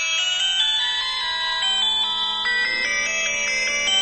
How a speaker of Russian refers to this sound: звонит мобильник.